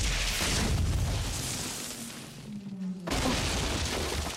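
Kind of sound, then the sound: nature, thunder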